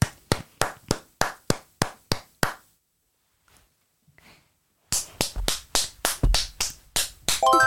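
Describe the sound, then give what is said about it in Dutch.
Steady hand claps in a clapping game, about eight in an even rhythm, stop for a couple of seconds of near-silence. A second, faster run of sharp claps follows, ending with a few quieter taps. “ik vind jou helemaal geslaagd voor het spel met het applaus.”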